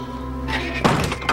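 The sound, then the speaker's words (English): The door of a refrigerated beer truck in a parking lot slams shut with one heavy, solid thunk followed by a brief metallic rattle, set against a steady low humming drone. No one speaks. “She shuts them inside.”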